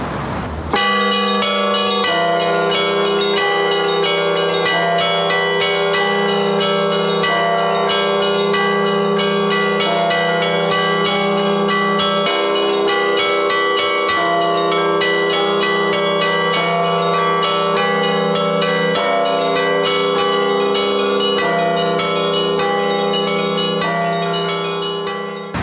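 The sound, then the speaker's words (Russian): A large church bell in Russia, cast in November 2007 and the 17th heaviest bell in the country, rings continuously, its deep, resonant tolling layered with lingering overtones, loud, with faint traffic rumble beneath and no voices. “Совсем недавно, 14 ноября 2007 года, состоялась заливка этого колокола, 17-й колокол по весу в России.”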